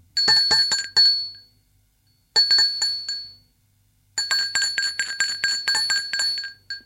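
doorbell ringing

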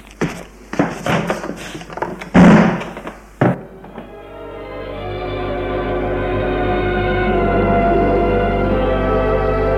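door slamming shut

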